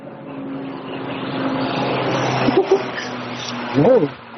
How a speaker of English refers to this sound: Sorry, that was very close. Was that a helicopter? Airplane, I think. Sorry. Very close. That sounded very low. Yeah, so strange. Must be a tourist helicopter.